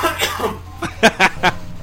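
A man coughs three times in quick succession, short harsh bursts, following a stretch of quieter background murmur.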